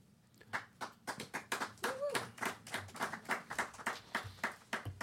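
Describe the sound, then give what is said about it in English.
A short burst of applause, with sharp hand claps rattling along in an uneven, fairly quick rhythm from what sounds like a small group. A brief vocal cheer rises over it partway through. “Well, it's good to hear a little bit of applause for you.”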